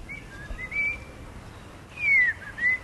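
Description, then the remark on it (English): A park ranger whistles a few clear, warbling phrases imitating a magpie's song, hoping a magpie will warble back, with sliding notes in two bursts separated by a pause, over a soft outdoor background. “He whistles, hoping he can seduce a magpie to warble back.”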